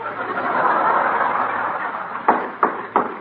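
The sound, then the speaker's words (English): Three sharp hammer blows on a wooden chair arm, hammering a loose arm tight and denting the chair, evenly spaced in a quick rhythm, sounding over a steady background hiss after a quiet stretch. “You're making big dents in that chair. Well, this arm is loose. I was just hammering it tight.”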